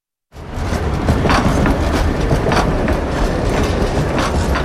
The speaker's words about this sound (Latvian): Piektā tramvaja līnijā no Kalnciema ielas līdz galapunktam Ilģuciems ir modernizētas pieturas, izbūvēta jauna infrastruktūra, pārbūvēti kontaktīkli un sliedes, taču pa tām joprojām brauc desmitiem gadus veci tramvaji.